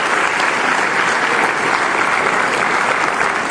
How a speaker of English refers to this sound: Let's give them a big round of applause for the work they do.